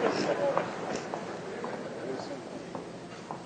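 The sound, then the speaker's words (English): Repeated dull thumps of a woman stomping her feet on a floor, falling in a loose, uneven rhythm, with voices murmuring in the background. “You stomp your feet up down until they can see it.”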